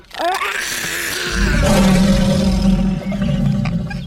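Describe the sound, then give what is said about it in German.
A deep, rumbling roar of a big lion swells in about a second in and holds loud for several seconds, with a gravelly low growl and no talking over it. “Nein, zuerst die großen Löwen.”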